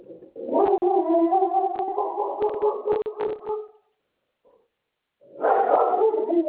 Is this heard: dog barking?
yes